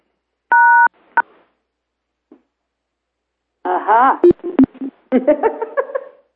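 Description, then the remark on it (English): A loud, steady electronic telephone tone sounds briefly, followed by a short beep, then garbled, choppy voices and clicks break up over the line as interference coming from a caller's work phone. “It is your phone. It's your phone. Yeah. Are you on a cordless?”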